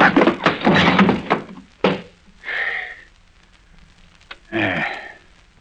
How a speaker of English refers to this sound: Hey, you landed kind of hard, sir.